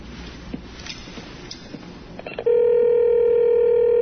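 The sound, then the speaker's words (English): A telephone being dialed, with a few quick clicks and beeps over a soft hiss, then a loud, steady electronic ring tone on the line that holds to the end. “I suppose I could run a phone in here.”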